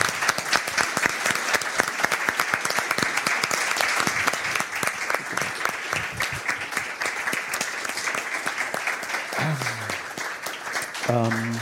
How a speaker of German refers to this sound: Wenn sie denn möchte, dann gerne hier auf die Bühne, sonst einfach so einen Applaus, sie hat ihn sich wirklich verdient.